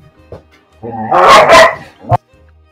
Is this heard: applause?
no